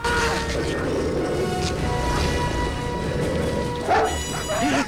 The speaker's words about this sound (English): Suddenly, Jack's attacked from behind by a wolf. The fierce black wolf leaps on Alex, knocking him to the ground. More wolves join in, tearing Alex's clothes from him and ripping into his flesh.